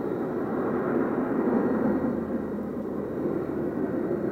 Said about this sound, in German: Dann hören wir, wie die Düsen aufheulen.